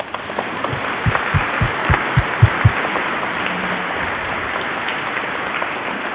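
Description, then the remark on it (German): A church audience applauds the children for their performance, a dense patter of many hands clapping, with a few louder claps standing out early before the applause settles into an even wash. “Ja, liebe Kinder, ihr merkt, ich möchte euch ganz, ganz herzlich danken und dafür geben wir jetzt auch nochmal einen Applaus, dass ihr das so schön gemacht habt.”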